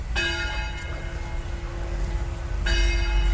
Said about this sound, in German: Da erklingen die Glocken der Marienkirche, die wir jetzt auch direkt betreten. Wie passend. Ja, unsere Marienkirche, Sankt-Marienkirche. Sankt-Marienkirche befinden wir uns jetzt gerade.